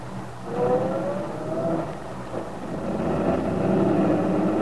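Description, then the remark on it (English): Aunt Mary's truck engine revs as it pulls away and drives off, a steady low rumble with a rising whine early on, moderately loud with no voices. “Sergeant Bill Meade watched Aunt Mary's truck drive off.”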